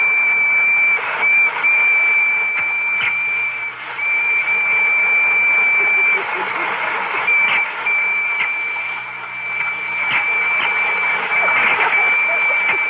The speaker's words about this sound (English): Spangles, are the electric trains ready? Oh, I think they're all lined up. Well, start one up and let's see.